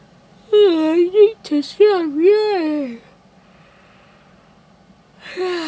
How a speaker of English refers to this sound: I need to stop yawning.